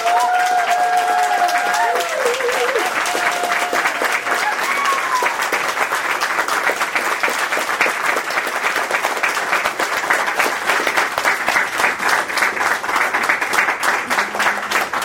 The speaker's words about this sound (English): I would like to have a really, really massive round of applause. For you.